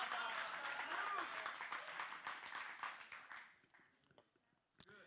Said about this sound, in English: Come on. Go ahead, clap. Go ahead.